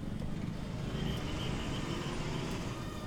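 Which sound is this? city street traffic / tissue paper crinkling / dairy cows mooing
city street traffic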